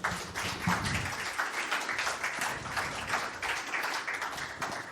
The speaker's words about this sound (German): Und dazu darf ich mit einem ganz, ganz kräftigen Applaus begrüßen